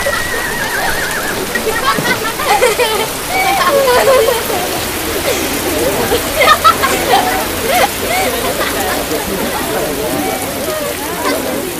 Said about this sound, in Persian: باران را بنگر که قحطی را از فدان می زداید.